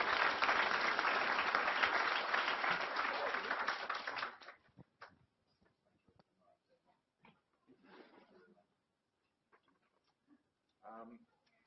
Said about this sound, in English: And if everyone could just give a round of applause to these speakers.